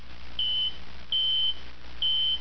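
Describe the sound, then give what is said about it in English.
Shizor's personal comlink beeps three times in a steady rhythm, each a clear, high electronic tone lasting about a third of a second, over a faint background hiss. “The beep of Shizor's personal comlink interrupted his musings.”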